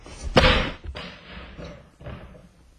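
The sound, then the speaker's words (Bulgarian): A heavy thud of someone bumping into a ladder, quickly followed by a smaller knock, then a softer rattling bump a moment later. No voices. “Защо не дъсна стълба?”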